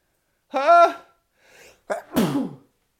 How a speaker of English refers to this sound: I'm going to sneeze.